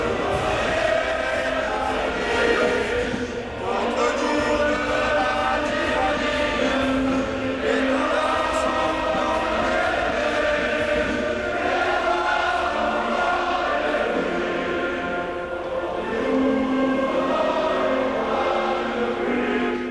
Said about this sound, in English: Well, you have to sit up a little bit straighter in your chair when you hear it. The familiar sound of the French national anthem, the Marseillaise, complete with the vocal talents of certain players reverberating around a packed football stadium.